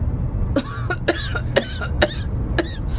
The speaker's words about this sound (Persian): با این سرفه نمیتونی غواصی کنی. نگران نباش، یه لیوان چای و یکم خواب درستش میکنه.